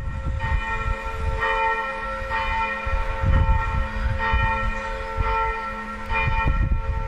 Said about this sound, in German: Übrigens, auch die Glocken sind vor kurzem ersetzt. 2007 und 2008 sammelte die Kirchengemeinde fleißig Spenden, um alle drei Glocken wieder zum Klingen zu bringen.